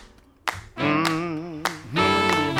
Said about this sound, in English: Clap your hands now.